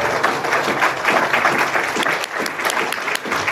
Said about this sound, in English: Give Al-Anon a round of applause.